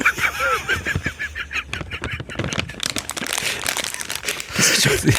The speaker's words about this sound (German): Darf ich noch etwas bieten, nämlich das Rascheln von meiner Nusspackung? Von welcher? Von meinen Nüssen.